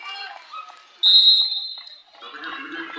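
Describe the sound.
A sharp, shrill referee's whistle blast cuts in for about a second at a basketball game, called for a travel after a rebound, loud, with crowd chatter and a commentator's voice around it.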